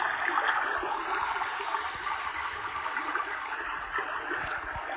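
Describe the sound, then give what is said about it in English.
A babbling brook in a forest flows steadily, its water rushing and gurgling in a continuous, moderately loud wash with small splashy bubbles throughout, with no voices. “Let's follow the babbling of the brook.”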